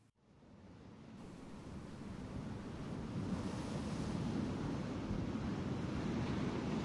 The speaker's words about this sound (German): Ein rauer Wind wehte vorne am Deck. Immer wieder schossen kleine, salzige Spritzer zu ihm hinauf. Es war kalt.